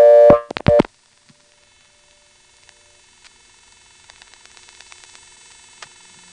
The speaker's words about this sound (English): The 2 was absorbed, and we're sitting on the first selector with the dial tone silenced, and there is a buzz here, which I've never heard on another STEP as far as I know. This buzz is actually more associated with AIS, number 101 ESS, and NX1.